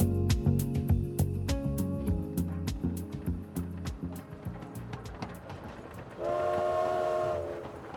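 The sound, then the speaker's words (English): A passenger train rumbles along the rails with rapid, rhythmic clacking of wheels, fairly loud; near the end a steady horn or whistle sounds for about a second. “In 1936, when my father was 14, his family traveled hundreds of miles by train from the small village of Pubnico in Nova Scotia to Ottawa, Canada.”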